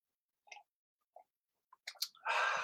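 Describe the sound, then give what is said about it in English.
A few soft clicks and mouth noises, then a cluster of quick wet sounds and a longer breathy slurp as people take a synchronized sip of coffee together after a count of three, with no talking. “Please join us in a synchronized sip of your favorite coffee or other beverage.”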